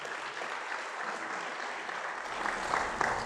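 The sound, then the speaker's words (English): An audience claps steadily for the worship team during a sermon, a dense wash of many hands forming a continuous, fairly loud applause that swells slightly toward the end, with no one speaking over it. “Oh, before I get on to that, hands to the worship team again.”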